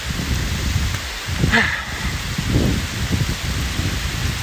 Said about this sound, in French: Il faut qu'on se trouve un abri, ma belle. Parce que là, on se prend la sauce. La vache. C'est la tempête. Oh, je suis déjà trempé.